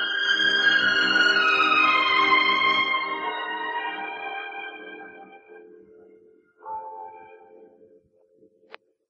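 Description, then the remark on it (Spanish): A church bell tolls slowly and mournfully in a city in mourning for its dying bishop: one deep, ringing strike fades out over several seconds before a second, softer strike sounds and decays, with no voices present. “Oye, ratoncito, ¿sabes por qué toca triste la campana? Es que la ciudad está de luto.”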